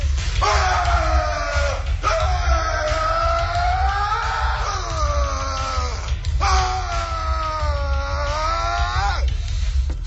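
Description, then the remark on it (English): A man yells loudly in long, drawn-out bursts, four or so sustained hoarse cries with brief breaks between them, over a constant low rumbling background. “He no-sells and just yells and yells.”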